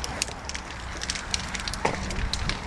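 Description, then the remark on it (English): A bonfire crackles steadily on bonfire night, with frequent sharp pops and snaps scattered over a low roaring rumble, fairly loud, with no voices. “Now we're going to be reviewing the fire.”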